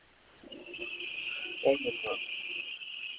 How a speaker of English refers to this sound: Somebody's snoring.